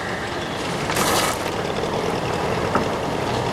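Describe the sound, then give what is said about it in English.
A man pours out his coffee in a brief hissing splash lasting under half a second, rising out of a steady low rumble of background noise that continues on its own afterward. “The man pours out his coffee.”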